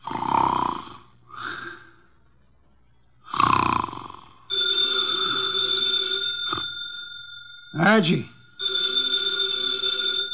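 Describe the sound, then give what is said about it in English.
A 300-pound man, the detective Nero Wolfe, sits with eyes closed in his office chair and snores through his nose in a few loud snorts with pauses between them, then a telephone starts ringing steadily and drowns out the sleeper. “His eyes are closed, and he's making sounds through his nose.”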